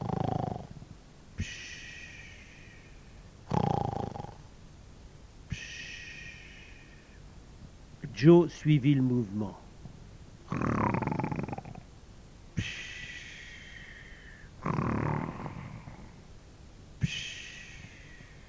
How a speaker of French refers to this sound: Huck sommeillait et bientôt se mit à ronfler.